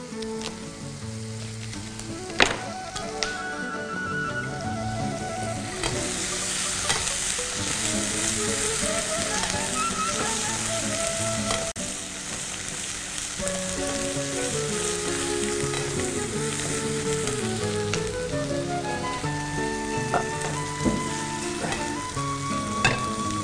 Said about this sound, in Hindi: इसी के अंदर जैसी वेजिटेबल थोड़ी सी सौते हो जाती है, तो इसके अंदर तकरीबन 2 से 2.5 कप के बराबर मैंने इसमें पानी का इस्तेमाल करा है।